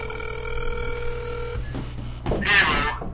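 A phone call rings out over a speakerphone: one steady electronic ring tone lasting over a second, followed by clicks and a brief rustling burst as the line connects. No one speaks.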